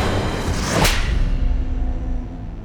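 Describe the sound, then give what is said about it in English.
A single sharp, loud slap cracks out, a quick whip-like smack of a hand across a man's face, knocking him to the ground, followed by a fading rumble and low background hum. No one speaks. “Rufus slapped John's face, and the prophet tumbled to the ground, confused.”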